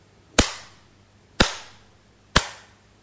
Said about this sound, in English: clapped three times in his hands.